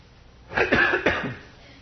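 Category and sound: human body sound, coughing away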